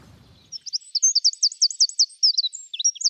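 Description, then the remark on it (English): A wren sings a rapid, high-pitched song of tumbling trills and sharp notes, loud, after a brief low rumble at the start. “Evelyn Cook from Metallic says, the mystery bird is a wren.”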